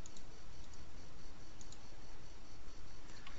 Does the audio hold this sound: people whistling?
no